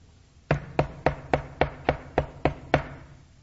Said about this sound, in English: And a knock comes to the door.